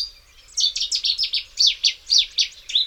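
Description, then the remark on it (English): A bird sings a fast, repeated series of high, bright notes, about a dozen in quick rhythm, with a few rising and falling slurs. No voices, just the song over a faint low background hum. “The best way to learn a new bird song is to track it down and see the singer.”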